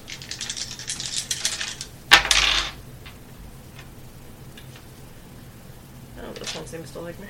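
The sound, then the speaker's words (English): Several dice are rolled across a hard table, with a run of quick rattling clicks and a sharp loud clack as they land, then a quieter pause and another short burst of tumbling. “Roll all these dice, see which ones roll well.”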